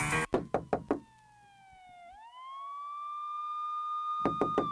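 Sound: knocking on a door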